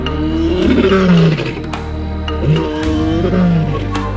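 A lion walking among cars at night lets out deep, rumbling roars in a steady series of low, throaty grunts, each swelling and fading, with a constant low hum running underneath and no voices.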